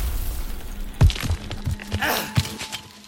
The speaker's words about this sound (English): The sound of twisted metal and heartbreak thundered while the car kicked up an enormous cloud of dirt.